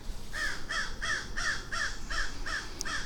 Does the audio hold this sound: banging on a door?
no